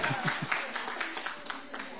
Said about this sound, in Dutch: Applaus.